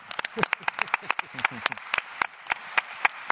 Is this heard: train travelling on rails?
no